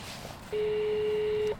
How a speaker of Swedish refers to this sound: Och så ringer jag på porten och säger att vi kommer in och ska spela in nu.